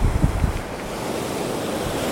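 waves on a beach

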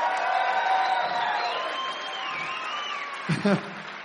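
audience cheering and applauding

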